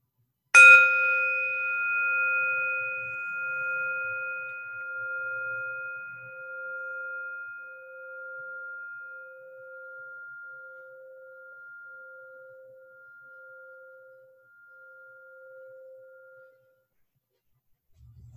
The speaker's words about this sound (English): Let's hear this bell as a wake-up bell, and allow yourself to hear in your own heart what it is that wants to awaken.